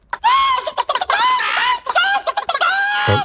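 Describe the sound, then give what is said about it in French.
A chicken clucks loudly and steadily, mixing short choppy clucks with longer drawn-out, nasal squawks in an uneven run for a few seconds, with no one talking. “D'ailleurs, on a un commentaire du porte-parole des principaux visés.”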